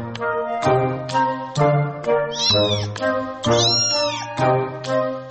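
A cat meows repeatedly and loudly, with drawn-out, wavering cries coming one after another in quick succession and no talking.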